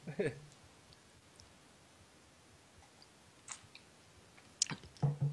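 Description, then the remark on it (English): Someone quietly sips a drink of water, with soft wet mouth clicks and a gulp spread over a few seconds, then a short mumbled sound at the end. “Yeah, but let me lean over and get a drink of water.”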